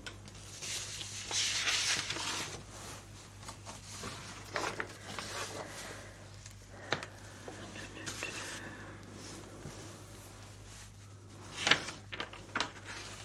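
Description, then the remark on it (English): Quiet, continuous scratching of a pencil on paper, with short strokes and a few sharper scrapes near the end, over a low steady background hum. “Use a pencil.”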